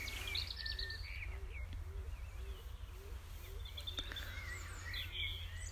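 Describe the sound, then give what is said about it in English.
Several birds call and chirp at once in the open air of an allotment site on a very still early evening, high bright tweets overlapping with a steady low repeated cooing, all fairly quiet and continuous, with no one talking. “A lot of lovely evening bird calls.”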